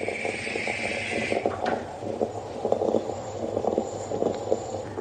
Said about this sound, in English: This is the sound of a mocha making its coffee. This is the sound that makes me really happy every morning during all my life.